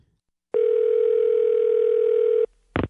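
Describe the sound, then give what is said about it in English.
A single steady electronic ring tone over a phone line lasts about two seconds at a constant pitch, then stops and is followed by a brief click-like burst; no one speaks. “All right, we're gonna get her on the line.”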